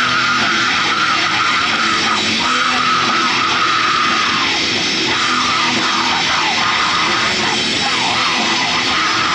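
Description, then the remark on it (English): Harsh screamed vocals ride over a loud, dense wall of distorted instruments in a song's chorus, sustained and intense throughout with no pauses. “the intensity of the screams on that in the chorus, and it shocks me.”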